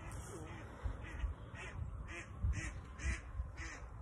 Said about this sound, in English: Another duck! There's so many ducks!